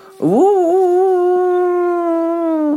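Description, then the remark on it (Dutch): A single long wolf howl swoops upward and then holds a steady, mournful tone for over two seconds, heard alone and fairly clearly in the distance at night at a zoo, with no talking. “De wolven, fluistert Daniel. Ik hoor ze 's nachts heel vaak huilen.”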